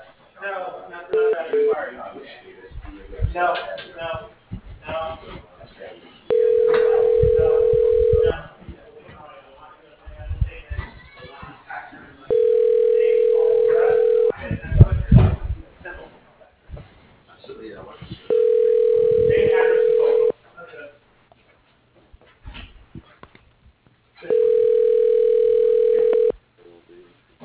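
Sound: phone line ringing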